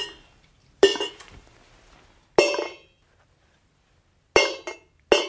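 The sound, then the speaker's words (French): Small pieces of dry pet kibble are dropped onto hard trays for an animal being tested, two on the left and three on the right, in several quick, bright clinks, some in tight little clusters, with quiet pauses in between and no talking. “l'idée, c'était vraiment de les faire tomber pour qu'il y ait du son”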